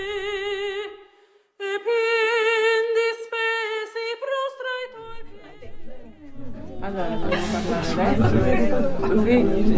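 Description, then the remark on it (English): Crowd chatter at a food market: a sustained, wavering melodic voice rings out first, then a dense babble of many overlapping voices swells in and grows steadily louder to the end. “It's a good crowd.”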